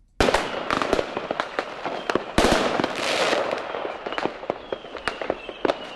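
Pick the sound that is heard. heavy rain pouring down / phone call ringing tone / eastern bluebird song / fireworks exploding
fireworks exploding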